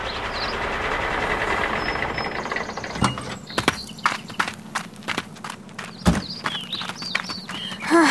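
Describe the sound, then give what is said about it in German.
Three wagons pull into a farmyard after a 20-minute journey: a steady rolling rumble gives way to sharp, irregular clip-clops of hooves and knocks, with no one speaking. “Nach 20 Minuten erreichten die drei Wagen den Hof von Bauer Huber.”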